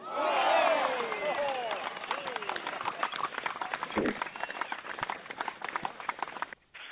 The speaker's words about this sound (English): Let me give this brother a round of applause, man, before I introduce him.